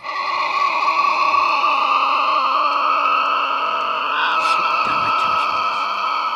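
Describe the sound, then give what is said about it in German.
A Tasmanian devil in Tasmania screeches continuously as evening falls, a loud, harsh, wavering cry with strained harmonic overtones that holds for several seconds with little pause, briefly rising in pitch near the end. “Als es Abend wird, hören wir ein wildes Kreischen.”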